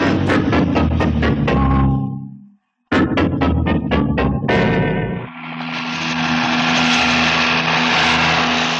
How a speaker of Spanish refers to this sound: El helicóptero ha tenido que ascender antes del túnel, pero sobrevuela por encima de la colina.